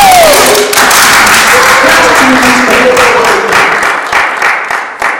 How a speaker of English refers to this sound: Well, let's clap for him.